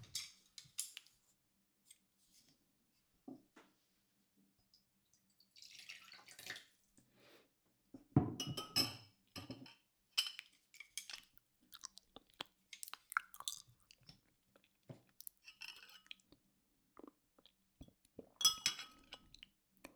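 Someone eating a meal: irregular chewing and soft mouth sounds mixed with sharp, bright clinks of dishes and utensils, coming in scattered bursts with quiet gaps between. No one speaks.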